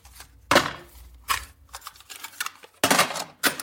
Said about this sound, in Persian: نوار کاست‌ها رو از قوطیشون در میاره، یکیش رو انتخاب میکنه، میذاره تو ضبط صوت.